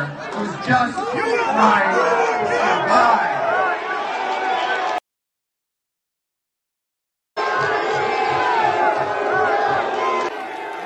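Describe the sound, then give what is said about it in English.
A loud crowd, Muslim parents standing up in Dearborn, Michigan, over LGBTQ-affirming school books, boos and shouts in a dense, overlapping roar of many voices, cut off abruptly by a couple of seconds of silence before the booing resumes just as strongly. “So here you have the Muslims standing up, booing, apparently.”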